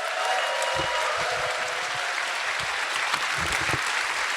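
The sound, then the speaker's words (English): A burst of applause from a group, many hands clapping in a dense, steady wash that holds evenly for several seconds with no voices standing out. “Clap your hands for software”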